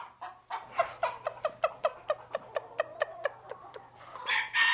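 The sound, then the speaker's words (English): A chicken gives a food call and locator call: a rapid run of about fifteen short, sharp clucking calls in a steady rhythm, fairly loud, ending with a brighter, higher squawk. “And what you just heard, that rah! That's also having to do with a food call, you know, and it's locator call.”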